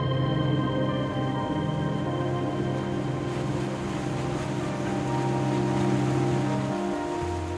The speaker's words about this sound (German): Ein weiter Horizont. Ruhiges, offenes Meer. Da, wo die Ostsee in die Nordsee übergeht. Ein friedliches Bild.